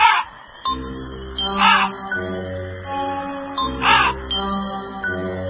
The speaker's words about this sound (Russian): Потащили его лапти в лес, а в лесу темно, звери спят, только вороны. Карр, карр.